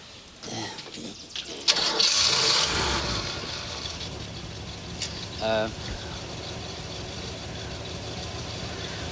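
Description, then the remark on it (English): A battered old Jeep engine at a sawmill cranks and catches with a loud, rough burst, then settles into a steady low idling rumble that continues to the end. “climbs into a battered old Jeep.”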